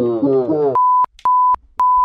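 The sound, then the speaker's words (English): A short, wavering voice-like tone gives way to three loud, steady electronic beeps at one pitch, played on a sampler keyboard, each lasting about a third of a second, evenly spaced with clicks at their edges. “Maybe it's just a whole bunch of beeps you heard.”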